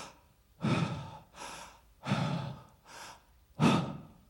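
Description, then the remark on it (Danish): A person imitates a grandmother's slow, labored breathing as she was dying: heavy rasping pulls alternating with softer exhales, ending in one sharp final gasp. No talking. “Og så på tidspunkt, så sker der det, hendes vejrtrækning gør sådan her.”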